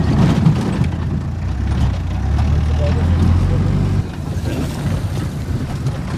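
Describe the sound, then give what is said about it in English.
A battered truck drives away from a village of stick-and-thatch homes, past children and parents, its engine a heavy, rough low rumble with a steady droning hum and rattling noise, the level dropping slightly partway through. “We drive away in a battered truck, past solemn-eyed children and wary parents.”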